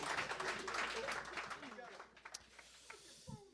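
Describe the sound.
An audience claps their hands in a dense, crackling burst of applause that gradually thins and fades over a few seconds, with faint voices mixed in.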